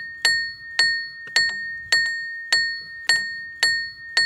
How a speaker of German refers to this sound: Ach ja, und immer wenn der Seilwagen fährt, dann wird durch eine kleine Nocke am Rad ein Hämmerchen bewegt. Das schlägt und macht Lärm. Der Klang von Hilbersdorf. Er warnt die Arbeiter, dass sie jetzt besonders aufpassen müssen